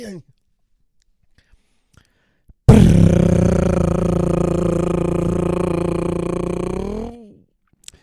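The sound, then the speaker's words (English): A voice imitates a drum roll to introduce the 'That's a Cincinnati moment of the week' segment, a loud, buzzing rolled trill held steadily for about four seconds, then trailing off abruptly. Quiet beforehand, with faint brief sounds. “Thank you for that wonderful drum roll.”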